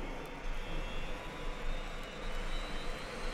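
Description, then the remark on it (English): Rotors and engines of military reconnaissance helicopters whirling to life at first light, a steady, loud whirring roar with a high turbine whine that fills the whole clip without pause, with no voices. “With first light, the rotors of our recon choppers whirl to life.”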